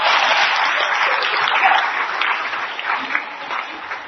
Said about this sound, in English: You're going to be hearing from James O'Keefe. He's the founder. Yeah, you can clap. Go ahead, clap.